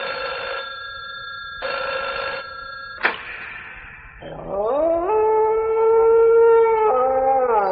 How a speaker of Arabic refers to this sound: في يوم كنت سهران بالليل كده فوجئت التليفون رن.